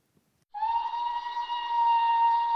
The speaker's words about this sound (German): Gegen 6.30 Uhr meine ich, den Pfiff einer Dampfpfeife zu hören. Ich will es kaum glauben, aber ich weiß, dass die Männer in der Walfangstation um diese Zeit aus den Betten geholt werden.